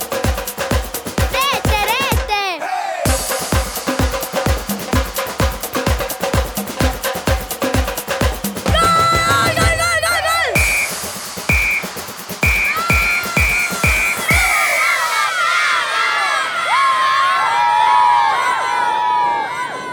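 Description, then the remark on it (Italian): Children shout and cheer excitedly as they play football, their voices mixing over a steady, thumping rhythmic beat before swelling into a loud burst of overlapping whoops near the end. “Questi bambini sì che sanno giocare.”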